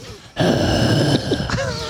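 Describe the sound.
A voice imitates the heavy, strained panting of someone jogging in the woods, loud, with raspy breaths and groaning tones running continuously for over a second after a brief quiet start.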